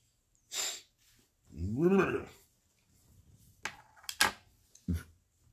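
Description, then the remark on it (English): A short burst of breath, then a single drawn-out, throaty snore from a sleeping woman, followed by a few sharp clicks and small knocks amid quiet. “I hope it wasn't a fart. I think it was a snore.”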